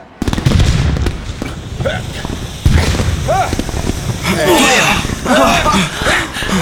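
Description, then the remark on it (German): Indoor fireworks in a hall with spectators: fountains give a continuous fizzing crackle while several small rockets whistle through the air, rising and falling in pitch, punctuated by a sharp loud bang early on and further pops throughout. “Nach den Fontänen schossen kleine Raketen durch die Luft. Es qualmte und krachte, dass die ganze Halle erzitterte.”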